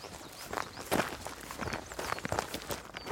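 Steady footsteps crunch along a coastal footpath at a relaxed walking pace, moderately loud, as people continue on foot down toward Hawker's Hut, with faint birdsong and open-air ambience behind them and no one speaking.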